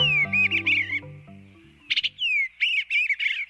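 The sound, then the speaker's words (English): Eastern bluebird song: soft, mid-high warbling phrases in two bursts separated by a short pause, with a low sustained musical tone fading out beneath the opening notes. No one speaks. “If the cheerful melody of the eastern bluebird doesn't bring a smile to your face, perhaps its striking color and skillful acrobatics will brighten your day.”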